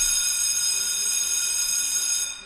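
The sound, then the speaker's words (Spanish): A school fire alarm, set off from inside the school building, rings loudly and continuously with piercing high harmonic tones, sustained for a couple of seconds before cutting off near the end. “Andrew se internó en el centro escolar y logró hacer sonar la alarma de incendios”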